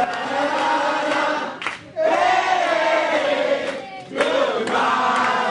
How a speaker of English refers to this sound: Cheers erupted when the numbers showed the recall and a slate of replacement candidates winning by a 6-1 margin. And the crowd began to sing goodbye to Robles and his three council allies.